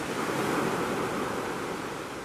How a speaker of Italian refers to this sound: Mai prima di quel giorno assolato la bambina era stata portata fuori dalle mura e ora percepiva le onde scrosciare, infrangersi su alti scogli.